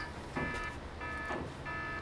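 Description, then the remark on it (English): A fire alarm sounds in repeated buzzing electronic pulses, about three bursts in two seconds, over a background hum with no speech. “It's a fire alarm.”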